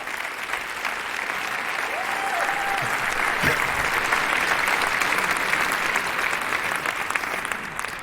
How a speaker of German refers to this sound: Ein Applaus für die Logistik.